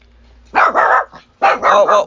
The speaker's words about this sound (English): Now my dog's going crazy. Sorry about that, guys. My little puppy was sitting here listening to me, and then she heard another dog outside.